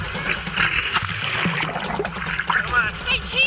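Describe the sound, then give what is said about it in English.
Ocean surf churns and splashes steadily throughout off Nantucket, a continuous wash of turbulent water with brief sharper splashes as swimmers are pulled in by a powerful rip current, with faint indistinct voices calling out beneath it; filmed on a GoPro camera held on a selfie stick. “They're suddenly pulled in and quickly overcome by a powerful rip current.”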